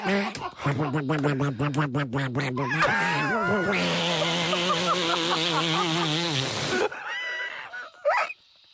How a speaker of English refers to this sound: What the hell? This thing's gone off. It just set off one of our Halloween decorations.